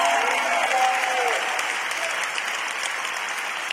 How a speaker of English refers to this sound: Context! Clap if I'm preaching right. Clap if I'm preaching right.